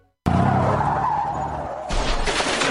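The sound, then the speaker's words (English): A car's tires screech abruptly into a long, loud, sliding squeal that drops slightly in pitch, then a sudden heavy thump as it strikes a deer. No one speaks. “Congratulations, you just met a deer with your bumper.”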